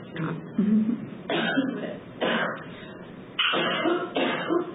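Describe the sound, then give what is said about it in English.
A run of about five muffled coughs from one person, each a hard burst with short pauses between them and no talking. “And I'm going to cough and know it's nothing more than it.”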